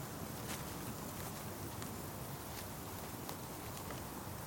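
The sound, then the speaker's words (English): Soft, evenly paced footsteps crunch along an uneven woodland path, roughly one step every half second or so, set against a steady hiss of quiet outdoor background with no voices. “You could hear footsteps. That the paths are uneven.”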